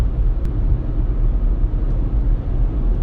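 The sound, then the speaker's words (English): A steady low rumble of vehicle noise from inside a car driving through heavy traffic on a 15-minute drive, continuous and fairly loud with a couple of faint brief clicks. “Ah, traffic is horrible today.”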